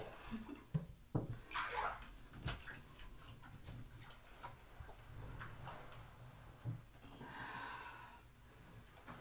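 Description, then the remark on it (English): Water sloshes and splashes in a bathtub as a person is helped into the bath, with irregular swishes and drips against a low steady background hum and occasional soft knocks. No one speaks. “You did a good job on the bath water this time.”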